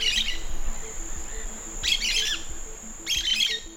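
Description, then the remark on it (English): A small domestic bird chirps in three quick bursts of bright, high twittering, spaced about a second and a half apart, over a steady background hum with no voices. “the small domestic bird that's causing a huge headache for Spanish authorities.”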